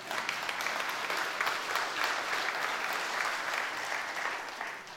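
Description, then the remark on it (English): A crowd applauds steadily for about five seconds, a dense wash of many hands clapping at an even loudness that thins slightly at the end, with no speech over it. “You can clap for that.”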